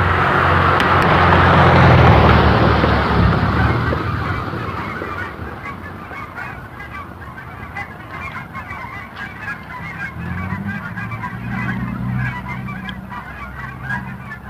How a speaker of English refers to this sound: It's a very loose skein, it's almost silent moving off here, just over my shoulder. I'm standing still because there's a huge, well, huge, it's like 50 geese.